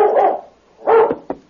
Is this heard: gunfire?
no